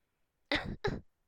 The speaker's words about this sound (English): Aw, it's okay. We all cough our first time.